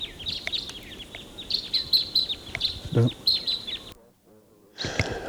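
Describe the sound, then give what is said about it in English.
About four crossbills singing and calling as they take off and fly higher up the ridge: a busy run of high, sharp chirps and short twittering notes in quick succession, then a brief hush before another burst of calls. “Okay, those crossbills, there were about four of them, took off and they went up higher on the ridge.”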